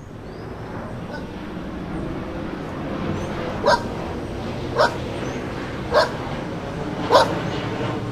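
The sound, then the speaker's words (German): Four short dog barks ring out at an even, steady pace over a constant low mechanical drone that fills the background throughout. “Haben wir nicht noch eins ohne Hund?”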